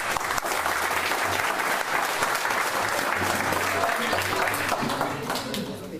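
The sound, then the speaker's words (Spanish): An audience in the community of Vitoria breaks into loud, sustained applause for a youth group, a dense wash of many hands clapping at once that holds steady for about six seconds before easing slightly at the end. “Entonces, para ustedes mismos también y para el resto de la comunidad de Vitoria, yo quiero que les demos un fuerte aplauso al grupo juvenil.”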